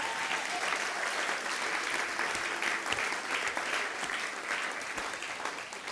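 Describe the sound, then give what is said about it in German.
An audience at a church service applauds the volunteers steadily for several seconds, a dense, even patter of many hands clapping with a few sharper individual claps standing out, holding at a consistent level throughout. “Vielleicht könnte man denen mal einen Applaus geben.”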